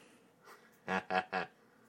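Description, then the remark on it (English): Three quick, harsh coughs burst out in a tight rhythm, loud, after a faint breathy sound, with quiet room tone before and after. “Edit out the coughing.”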